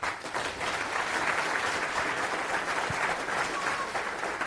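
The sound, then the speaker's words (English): An audience applauds steadily for several seconds as a speaker is introduced, a dense, even wash of many hands clapping at once with no voices breaking through. “Go ahead. Applause.”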